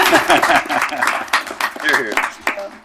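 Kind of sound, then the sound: crowd, round of applause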